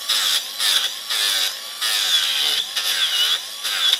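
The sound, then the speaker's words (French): A chainsaw cuts into wood in short, loud bursts while carving a wooden sculpture, its engine revving up and easing off about six times with brief dips between, no voices. “Donc là, par exemple, pour le visage, vous utilisez la tronçonneuse ou plutôt la meule?”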